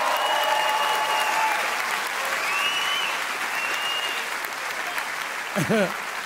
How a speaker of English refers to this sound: I wanna give a shout out to my mom. My mom's here, it's her birthday today. I need a clap.